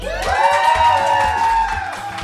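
audience cheering

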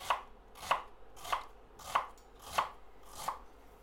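knife dicing an onion

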